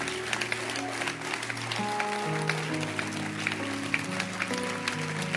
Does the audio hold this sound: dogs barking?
no